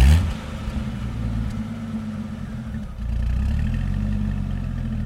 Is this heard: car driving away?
yes